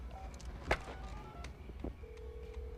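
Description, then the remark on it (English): A man dials a telephone: a few short keypad beeps and clicks, then a steady tone that holds to the end, over a low background rumble. “Keeping his gun aimed point blank at Nick, he dials a phone.”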